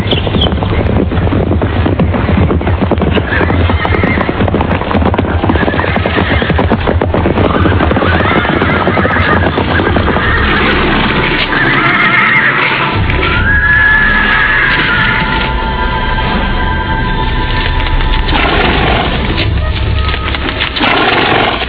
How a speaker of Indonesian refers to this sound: Memang benar, tak lama kemudian terdengar derap orang-orang berkuda semakin dekat.